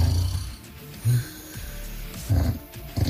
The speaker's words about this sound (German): Sie haben uns diese Woche jede Menge Beispiele ihrer schlaflosen Nächte geschickt mit dem Sägen, Pusten oder Pfeifen ihrer Bettpartner. 5 davon haben es jetzt ins finale Voting geschafft.